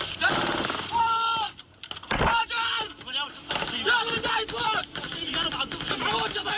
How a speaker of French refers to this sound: ce qu'on entend, c'est le feu nourri